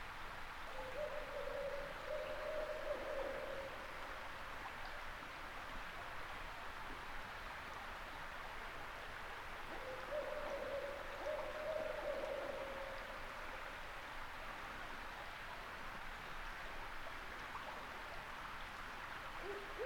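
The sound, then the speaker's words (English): Barred owls hoot at night around 3 a.m. in a forest of hemlocks, two drawn-out, wavering hoot phrases about ten seconds apart, in the distance, over a steady rushing background like a stream. No one speaks. “For minutes on end, I lay there under the hemlocks, entranced by the reverberant sounds of the owls and the pristine wildness that surrounds me.”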